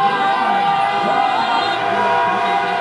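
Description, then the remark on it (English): A loud, continuous din of many car horns blaring at once in overlapping, sustained tones, layered over a cheering, shouting crowd celebrating in the streets of France after the French team beat Belgium to reach the World Cup final. “Horns honking in the streets of France”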